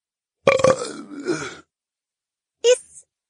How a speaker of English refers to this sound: He barely held on to the post, slipped once, and almost toppled to the ground, but he righted himself and let out an echoing belch.